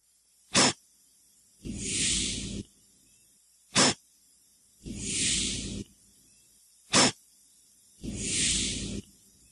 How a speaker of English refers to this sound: The hissing mushrooms. The hissing mushrooms. Is that like spreading spores? Yeah, that's what it's doing is it's, you know, pumping out spores. That's so cool.